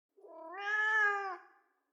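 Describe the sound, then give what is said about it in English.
A single drawn-out wail from Boris the cat, up at the very top of a tree, rising and then falling in pitch over about a second and a half, heard clearly on its own with no talking. “It's a cat wailing.”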